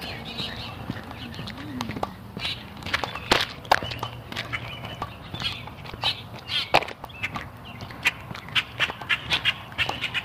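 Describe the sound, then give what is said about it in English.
Steady footsteps crunch along outdoor ground as a person walks up behind a couple of big black dogs, a quick uneven series of sharp steps that continues throughout, over a low, soft background murmur. “They didn't even notice me coming up behind them.”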